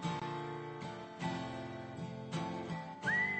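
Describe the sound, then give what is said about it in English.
A whistled tune rides over a full instrumental backing, its clear pure notes rising and holding near the end of the short musical passage. “Guess who's whistling right now?”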